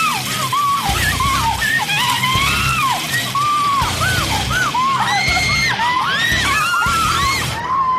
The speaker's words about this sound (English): Yeah, screaming really helps, ladies. Just scream.